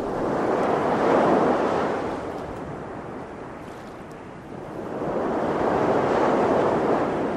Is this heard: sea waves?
yes